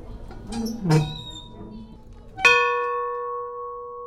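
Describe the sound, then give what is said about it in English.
A large locomotive bell, on exhibit at the Ralph Foster Museum as a gift from the Frisco Railway, is pulled and let go once, giving a loud clang that rings on with a steady, bright metallic tone and slowly fades. Brief murmuring and handling noises come before the strike. “helped me record for you this locomotive bell on exhibit as a gift to the Ralph Foster Museum from the Frisco Railway.”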